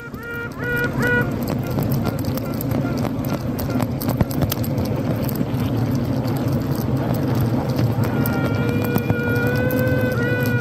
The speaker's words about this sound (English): Just before we go, Paul did send me the most amazing sound of a queen bee, and I think our listeners will love this.